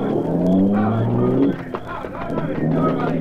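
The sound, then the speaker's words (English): A car engine roars, its pitch climbing as it accelerates, then gives way to rough road and motor noise as the vehicle speeds off. “They'll think I've escaped in the car.”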